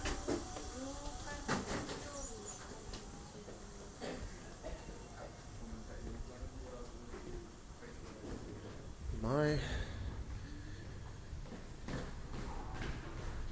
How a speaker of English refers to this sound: Ah, the sound of the dentist's office in Tokyo, Japan. A lot of sucking and drilling going on here.